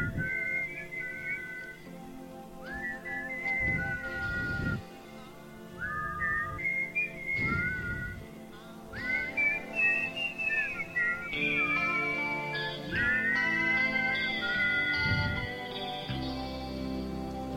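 A whistled melody carries clearly over a band playing underneath, the tune rising and gliding in long sustained phrases with brief pauses, loud and up front throughout.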